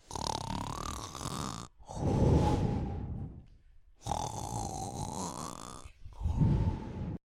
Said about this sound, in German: Als der Wolf seinen Appetit gestillt hatte, legte er sich ins Bett, schlief ein und fing an, laut zu schnarchen.